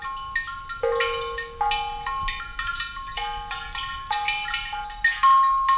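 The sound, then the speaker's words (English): Water drips into a buried Japanese suikinkutsu, a clay cistern-like device that catches overflow water from stone drinking basins in Japanese gardens, each drop ringing out as a clear, bell-like tone that lingers and overlaps with the next. The irregular plinks sound reverberant, with no voices. “These tinkling melodies are created by Asui Kinkutz, which literally translates as water harp cave.”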